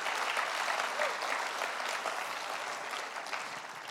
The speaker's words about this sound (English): Go on, give the Lord a clap offering.